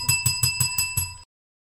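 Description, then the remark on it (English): A bicycle-style bell rings rapidly six times in an even, quick rhythm, bright, then cuts off abruptly into silence. No one is talking. “Where is my bell?”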